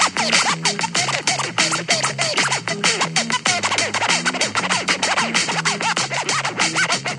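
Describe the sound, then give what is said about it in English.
Vinyl record scratching made by pulling the record back and forth while the stylus is in contact with it: fast, rhythmic back-and-forth swipes with whooshing, swooping pitch that rises and falls, loud and continuous for several seconds, with no voices. “is pulling it back and forth while the stylus is in contact with the record”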